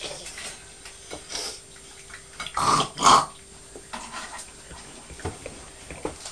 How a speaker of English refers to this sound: I'm purring. You're grunting like a pig, aren't you?